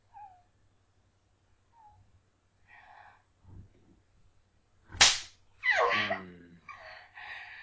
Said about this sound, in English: You're gonna slap your ass.